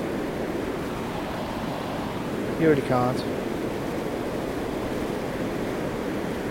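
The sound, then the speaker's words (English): A steady, broad roar of sea waves and gusting wind on the beach at Saltburn by the Sea on the North Yorkshire coast fills the whole stretch, with a man's voice briefly speaking over it partway through. “Sounds the opposite to what you would normally do, but you can't beat a bracing walk up the beach with the wind coming off the sea.”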